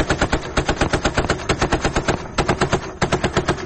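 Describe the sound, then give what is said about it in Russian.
Anti-aircraft gunfire from an air defense missile brigade in southern Ukraine, at night during a drone attack, hammers away in a rapid, unbroken stream of loud shots, roughly seven or eight per second, with a brief stutter near the end and no voices over it. “Давайте посмотрим, как в ту ночь работала зенитно-ракетная бригада ПВО на юге Украины.”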